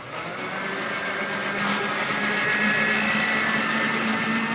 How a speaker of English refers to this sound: What I'm going to do is puree this. Then we're going to slowly drizzle in the oil. So here goes the blender.